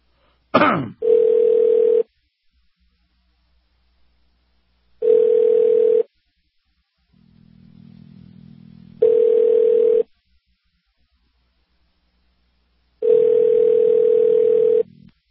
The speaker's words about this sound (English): So we're calling the embassy, well, the State Department, to ask what the U.S. Embassy is doing about this over in Kenya. John, you got the phone ringing yet? I don't mind hearing the recording. Here we go.